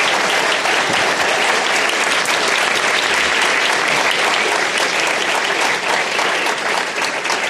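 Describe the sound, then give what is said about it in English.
Sustained applause from the audience at an Inform and Commonwealth Club program, a dense, steady wash of many hands clapping at constant loudness for several seconds, with no voices standing out. “Now, let's have a big round of applause for Tom and David Kelly for sharing their thoughts with us tonight.”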